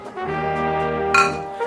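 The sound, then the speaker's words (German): Glasses clink together in a toast, one bright chink ringing out over a steady, humming tone that fills the background. “Prost. Prost.”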